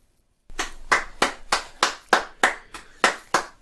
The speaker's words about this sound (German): Puh, ich klatsch wirklich nicht oft am Ende einer Folge, aber wie du die letzten 3 Minuten gestaltet hast, richtig, richtig, richtig schlecht. Spaß. Richtig gut.